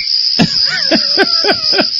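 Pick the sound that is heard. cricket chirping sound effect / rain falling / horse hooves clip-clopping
cricket chirping sound effect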